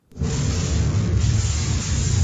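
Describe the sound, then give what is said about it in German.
An e-bike battery explodes and catches fire in a video by the testing organization DEKRA, with flames almost a meter high and heavy smoke. A sudden onset jumps straight into a loud, steady roaring hiss with a heavy low rumble that holds for about two seconds without fading. “So hört es sich an, wenn der Akku eines E-Bikes explodiert und in Brand gerät.”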